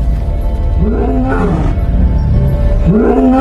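lioness roaring

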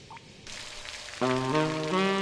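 rain falling at night

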